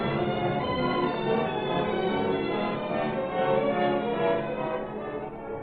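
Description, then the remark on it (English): A doorbell rings steadily for several seconds, a sustained, fairly loud metallic ringing with rich overtones and no pauses, heard on its own without any voices. “What's that? Sounds like the doorbell.”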